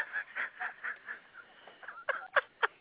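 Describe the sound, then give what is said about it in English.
A chicken in a back garden clucks in a quick, steady run of short calls, then finishes with three louder, sharper squawks. No one speaks. “Oh, they cluck away like crazy.”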